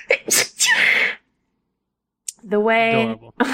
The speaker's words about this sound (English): Hold on, I'm going to sneeze.